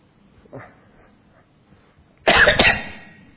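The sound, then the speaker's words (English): A single loud cough bursts out after a couple of seconds of near quiet, preceded by a faint, brief noise; no one speaks. “And don't worry about the cough.”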